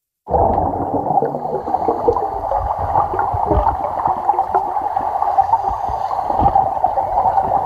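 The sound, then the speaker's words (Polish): Muffled underwater gurgling and bubbling, heard while diving in a swimming pool, fill the whole recording, a steady churning wash with occasional low thumps and bursts of bubbles, fairly loud, with no voices. “Nurkowałam w basenie. Urzekło mnie dźwięki, które są pod wodą w takich sytuacji.”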